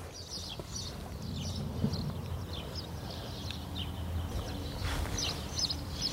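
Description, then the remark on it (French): Several birds chirp and sing in quick, repeated bursts throughout in the destroyed, abandoned town of Taoulra, once home to 40,000 people, over a steady low rumbling background. No one speaks. “Voilà, ça, c'est les oiseaux de Taoulra. C'est tout ce qui reste ici.”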